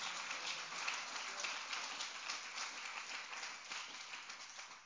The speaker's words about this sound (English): Clap your hands unto the Lord and thank him.